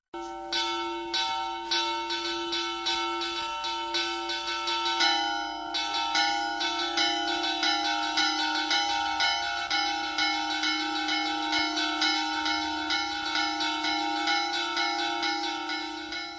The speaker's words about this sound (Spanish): Hola, hoy empezamos el programa de antropología con toque de campanas. Eso va a venir muy bien para los que se despiertan y nos oyen tempranito en la mañana del sábado.